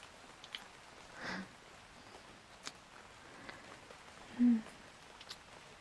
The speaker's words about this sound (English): I can't believe it's still raining.